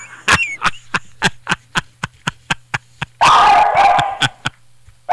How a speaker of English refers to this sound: My dog barked right on the punchline. A Dick Gregory fan.